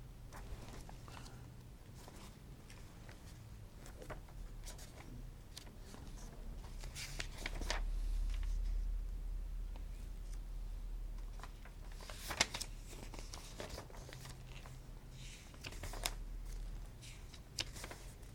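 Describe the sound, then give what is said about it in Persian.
Intermittent rustling and crinkling of paper sheets being shuffled and handled while someone searches for a written sheet, with occasional sharper flicks and taps over a low steady hum; nobody speaks. “من اینجا نوشته بودم این کاغذ، حالا اینو در ادامه اگر پیدا کردم انشالله اینو براتون میخوانم که بله.”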